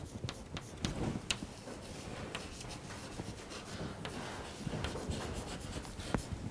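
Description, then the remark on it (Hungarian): Chalk or marker scratches steadily across a board as a formula is written up, with short strokes, taps and scrapes at a moderate level, and no one talking. “Tovább egyenlő, P átlagszor, a DA-t fölírom.”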